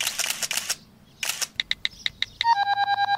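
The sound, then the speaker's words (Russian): A camera shutter clicks in a few quick bursts as someone photographs a spot with footprints in sand to send the picture, followed by a string of short, high electronic beeps that speed into a rapid, even sequence of tones at the end. No voices. “Сфотографируй, пожалуйста, это место и отправь мне.”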